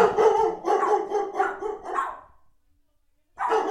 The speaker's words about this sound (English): They were just doing their job. Somebody knocked on the door, and their job is to scare them. Could y'all hear that? Because if you couldn't hear my dogs barking like crazy, that's hard to imagine